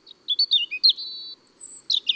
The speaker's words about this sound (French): Le rouge-gorge est un des bons chanteurs de l'hiver.